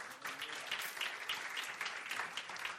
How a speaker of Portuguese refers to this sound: Jesus merece uma salva de palmas.